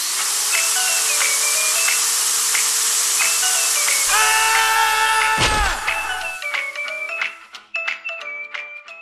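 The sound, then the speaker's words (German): Water hisses and sprays loudly from a burst pipe, with whistling tones over the rush. A sharp gushing surge hits midway, then the noise thins into sputtering, tinkling drips. “Und was jetzt kommt, wisst ihr sicherlich alle. Rohrbruch.”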